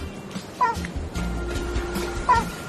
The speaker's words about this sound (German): Sie begrüßt dich mit einem freudigen Bellen.